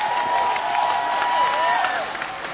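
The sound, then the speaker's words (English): An audience claps and cheers for Jesus, a dense wash of applause with rising whoops and shouts layered on top, holding loud for a couple of seconds before easing slightly at the end. “Come on, clap for Jesus.”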